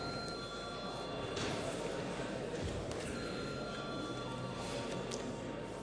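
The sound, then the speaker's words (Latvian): A sustained electronic bell tone rings steadily for several seconds in a parliament chamber, called before the third-reading vote on amendments to the children's rights protection law, holding thin high pitches over a busy background murmur with faint voices. “Lūdzu zvanu.”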